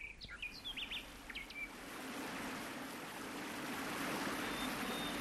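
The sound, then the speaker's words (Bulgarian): A steady rush of falling water from a waterfall foaming through a valley enclosed by rocky crags, with a few bright bird chirps and tweets sounding over it in the first couple of seconds before the roar carries on alone. “Стигнахме най-после. Ето го водопада.”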